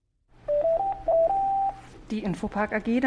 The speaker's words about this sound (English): The phone's been ringing a lot recently at Infopark. The web services company has enjoyed strong growth this year, and it's hiring.